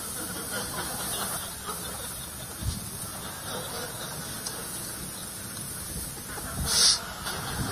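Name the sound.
chicken clucking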